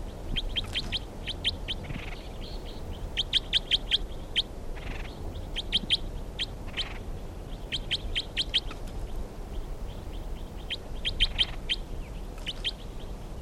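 bird calls being recorded

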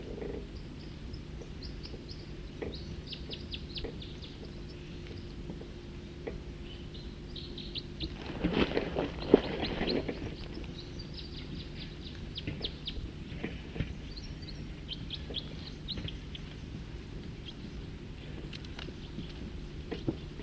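birds calling

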